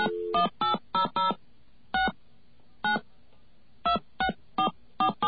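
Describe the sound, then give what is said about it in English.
A 1-800 phone number being keyed in on a touch-tone phone: about a dozen short, clear dialing beeps in quick clusters with brief pauses between groups, fairly loud, with no talking. “But let's try the 1-800 my ANI is number.”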